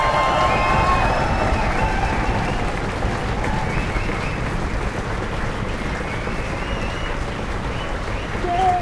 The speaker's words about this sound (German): Und dieser Applaus hier, der ist für euch.